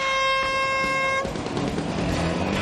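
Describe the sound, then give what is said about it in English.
A single loud, steady horn blast with a bright, buzzing harmonic tone signals the start of a boat race on a windy day, held for just over a second before cutting off into a noisy, rumbling wash of background sound. “On the sound of the horn, wet your winkle pickers!”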